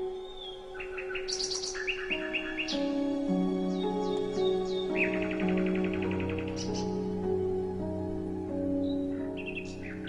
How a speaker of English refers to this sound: The song of the nightingale is also called for in the third movement of Respighi's Pines of Rome, the Pines of the Janiculum, but he didn't write out the part for a woodwind instrument. He specified that a recording should be played.